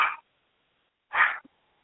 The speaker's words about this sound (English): I'm hearing something that sounds like a puppy or someone.